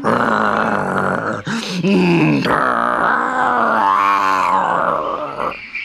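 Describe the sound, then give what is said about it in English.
A person imitates a tiger's loud, rumbling growl, a sustained gravelly roar that rises and swells over several seconds with no words spoken, as a tiger in a story springs out from behind a tree and growls louder than ever. “So the next day, when he saw Sudhi coming, he sprang out from behind the tree and growled louder than ever.”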